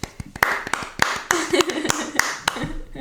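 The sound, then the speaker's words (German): A small, brief round of applause: a handful of people clapping in loose, uneven rhythm for a few seconds, with faint voices murmuring underneath. “Für alle, wo ihr sind und du jetzt zu mir kommst, kleiner Applaus.”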